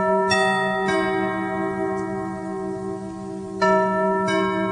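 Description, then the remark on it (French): A short, bright chime melody of bell-like tones, several struck notes ringing with sustained harmonics, clear with no talking: a radio station's signature chime. “cette petite musique, c'est le carillon d'une autre radio, Europe 1”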